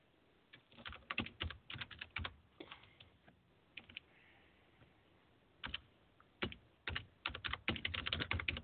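Rapid, uneven clatter of keys being typed on a computer keyboard, coming in bursts with a short lull in the middle, fairly close and clear, with no voices.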